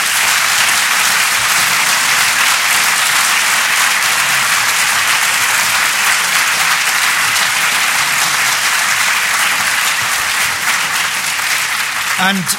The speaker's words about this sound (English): And for that, we should be grateful to all the panel. So please give them a big round of applause.